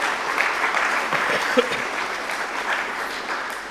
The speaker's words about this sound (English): And if we do that, we did it. We have accomplished something. So give ourselves a round of applause.